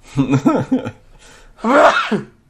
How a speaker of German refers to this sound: Sekunde, gut, muss ich mal kurz niesen, ist kein Corona.